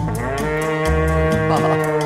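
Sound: cow mooing sound effect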